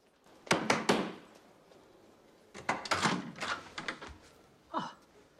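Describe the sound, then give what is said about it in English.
Knocking on double wooden doors: a quick burst of three solid raps, a pause, then a longer uneven series of knocks, ending with a short creaking sound. No one speaks. “Paul climbs the stairs and knocks on the double wooden doors.”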